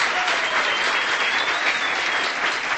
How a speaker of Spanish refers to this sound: Si pueden, por favor, darle un aplauso a los novios, a los esposos.